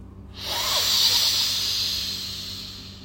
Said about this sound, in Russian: Итак, мы с вами зажимаем большим пальцем правой руки правую ноздрю и делаем глубокий, громкий, медленный вдох через левую ноздрю.